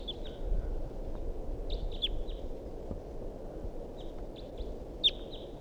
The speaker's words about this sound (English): So recording, this is the vocalizations of a wild bird that's here up in the big pine tree above the net. Wild bird calls and decoys respond.